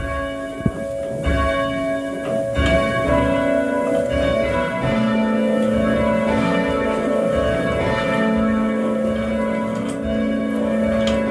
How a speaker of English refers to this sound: went along to the church to give bell ringing a try.